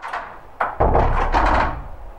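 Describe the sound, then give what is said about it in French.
A door swings shut with a sharp wooden knock and a heavier thud, its low rumble lingering for a moment before fading, with no one speaking. “Les portes. Un son de notre quotidien qui se révèle souvent comme un miroir de nos intentions, nos humeurs, nos caractères.”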